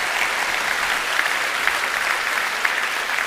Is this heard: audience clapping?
yes